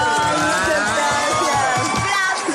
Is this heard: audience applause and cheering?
yes